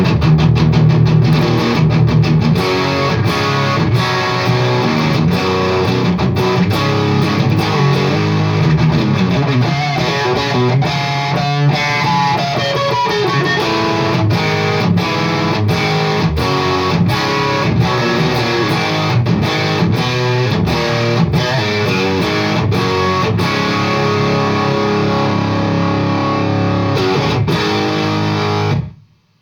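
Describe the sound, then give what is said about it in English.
A loud, saturated electric guitar plays through a high-gain amp with the gain turned all the way up, thick crunchy distortion sustaining over chugging riffs and ringing chords for about half a minute, then cutting off abruptly. “Sounding great, pump that gain right the way up.”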